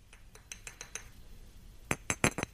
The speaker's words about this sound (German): Also Achtung, Geräusch kommt. Ist ein Kussgeräusch.